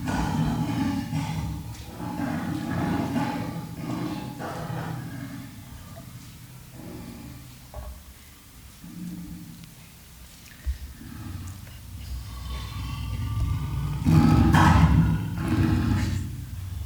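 A lion roars and growls in a series of deep, rumbling bursts, loud, swelling again near the end with no one speaking.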